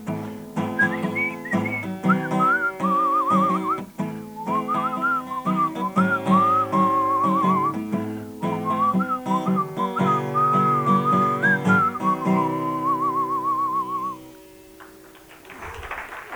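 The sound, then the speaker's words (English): Someone whistles a flowing melody with wavering, vibrato-tinged notes over steady instrumental backing, holding a clear tune for about fourteen seconds before it stops and a brief rustle of noise follows. “Hard to whistle when you're shaking.”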